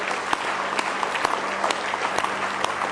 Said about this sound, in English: Praise the Lord. Let's give him one more good hand clap of praise if you love him.